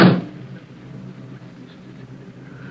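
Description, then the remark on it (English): A single loud thump like a car's back door slamming shut as a figure slips into the back seat of a car stopped on a deserted road several miles from an airport in the evening, followed by a low, steady idling rumble that carries on quietly to the end. “On a deserted road, several miles from the airport, a car is stopped and the back door is open. A dark figure emerges from the surrounding shadows and slips into the back seat.”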